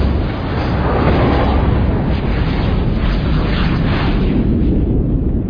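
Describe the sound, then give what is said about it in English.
A massive subspace shockwave blast, originating at bearing 323 Mark 75 from Praxis, a Klingon moon, roars for several seconds as a dense, heavy rumble with crackling, hissy texture on top. It stays loud and steady throughout, with no voices. “Subspace shockwave originated at bearing 323 Mark 75.”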